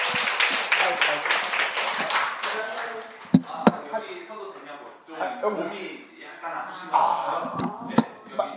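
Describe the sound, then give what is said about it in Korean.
A burst of group applause as missionaries are called forward to report on the Ghana mission fills the first few seconds, dense and crackly, then fades into people talking, with a couple of sharp knocks or taps cutting through the voices. “마이크 하나 더 좀 내주시고. 박수.”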